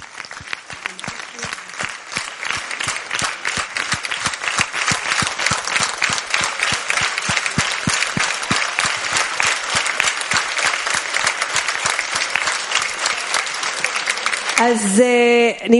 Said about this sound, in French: Alors, aussi, un autre groupe qui s'occupe de toute la question de téléphone. Alors, des grands applaudissements.